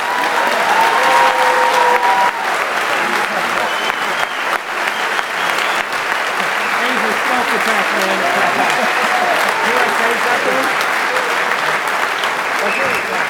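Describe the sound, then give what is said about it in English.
A crowd applauds in a long, steady round of dense clapping that stays loud throughout, with scattered voices and cheers mixed into the noise. The applause is a thank-you to a community member presented with a gift everyone signed. “And so if we could get a round of applause.”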